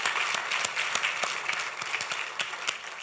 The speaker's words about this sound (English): Since I'm going to be talking about giving, I want to hear you thank the Lord and applaud and say, God, we praise you for this word, amen?